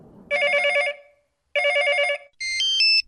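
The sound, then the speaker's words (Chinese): Two bursts of a warbling electronic phone ring on an outgoing call to a friend, separated by a short pause, are followed by a brighter run of high beeping chime tones, all clear with no voices. “嘿，我现在就打个电话给他。”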